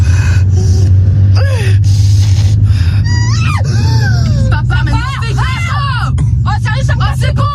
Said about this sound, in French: Même ses propres filles n'en peuvent plus de l'entendre crier. Elles sont en train de péter un plomb.